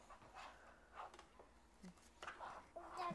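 Roosters, called the boys and named Sean, Ryan and Zachary, cluck faintly outdoors, a series of short, scattered calls with brief pauses, picking up slightly toward the end.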